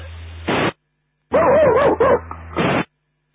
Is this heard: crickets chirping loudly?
no